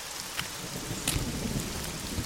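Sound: thunder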